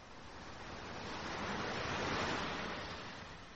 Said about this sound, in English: The sea. Yeah. The sea.